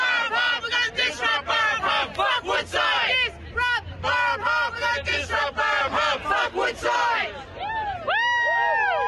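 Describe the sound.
A crowd of environmental protesters chanting and shouting outside the Crown Casino in Perth, Australia, during Woodside's annual general meeting; many voices rising and falling in loud, overlapping bursts for several seconds, with a few higher whoops near the end.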